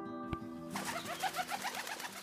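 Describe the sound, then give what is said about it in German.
A pigeon coos in a steady run of soft, rhythmic burbling notes after a brief click, with a low background hum and no voices. “Verschwinde, Taube.”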